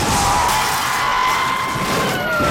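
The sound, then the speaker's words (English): A loud car crash as a speeding teen driver's sport utility vehicle loses control on a bumpy road and slams into another car in cross traffic: continuous harsh, crunching noise with a thin screeching whine running through it, steady for a couple of seconds, with no voices. “Losing control, the young driver barrels into cross traffic.”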